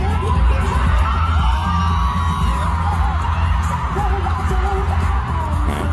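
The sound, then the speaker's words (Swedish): A large concert audience bursts into a loud, sustained cheering ovation as a female singer appears, with whoops and shouts rising from the roar throughout the whole stretch. “du sa att hon fick den största poppen då, att publiken brast ut i ovationen när hon dök upp.”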